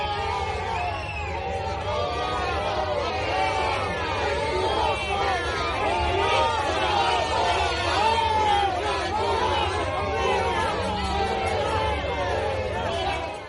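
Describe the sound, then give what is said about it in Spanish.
A crowd of protesters at La Paz Hospital in Madrid shouts continuously against Pedro Sánchez and health minister Salvador Illa, many overlapping voices forming a loud, steady roar of jeers and chants of "fuera, fuera" and "sinvergüenzas" with no pauses across the whole stretch. “Hoy se repiten las protestas en el Hospital Madrileño de la Paz contra Pedro Sánchez y su ministro de Sanidad, Salvador Illa, a gritos de fuera, fuera y sin vergüenzas.”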